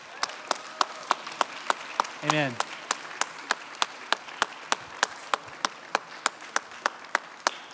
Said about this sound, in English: Could we have all the dads come yeah. up to the front? Yeah. We can keep the applause going for these men. Amen.